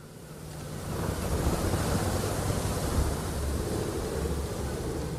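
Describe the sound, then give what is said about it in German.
Rough, stormy sea surf between Northern Ireland and Scotland roars continuously with heavy wind buffeting the microphone, a dense, loud wash of crashing waves that swells after the first second and stays steady, with no voices. “Oben das stürmische Meer, unten die wetterfeste Tunnelröhre zwischen Nordirland und Schottland.”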